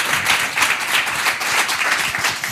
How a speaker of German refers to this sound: Es gibt noch einen schönen, ermutigenden Applaus für dich